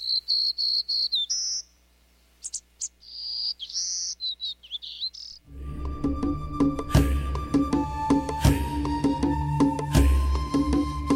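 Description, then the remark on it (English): A warbler sings a bright, buzzy song: high, thin trills and rising buzzes in quick bursts for about five seconds, then a denser, rhythmic wash of sound takes over. “And, as sister species often do, they all put a unique twist on that bright, buzzy song.”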